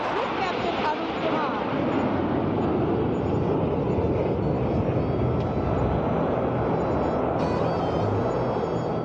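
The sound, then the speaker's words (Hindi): A steady, loud jet roar fills the whole stretch without letting up, a broad rushing noise like aircraft passing low overhead, as Indian Air Force Rafale, Sukhoi 30 and MiG 29 jets fly past to close a parade, with a faint crowd murmur or voices beneath it. “Parade का समापन भारतीय वायुसेना की विमानों की फ्लाईपास्ट के साथ हुआ, जिसमें राफेल, सुखोई 30, मिग 29 शामिल थे।”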